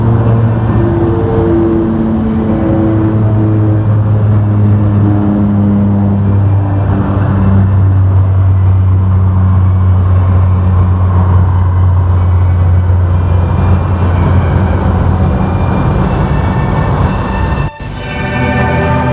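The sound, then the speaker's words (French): A car engine drones steadily, its pitch rising and falling as it revs and shifts through gears, with a heavy low rumble and no voices. “Ensuite, ils sont amenés en voiture jusqu'au siège.”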